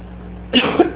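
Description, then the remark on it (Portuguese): A quick burst of harsh coughing breaks out after a quiet moment, with a second short cough following near the end; a persistent cough that has not gone away yet. “A tosse que não me abandonou ainda.”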